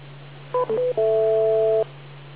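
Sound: radio repeater beep tone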